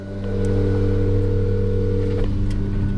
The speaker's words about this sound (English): so I try calling him from the car, just as a guy with a leaf blower walks by.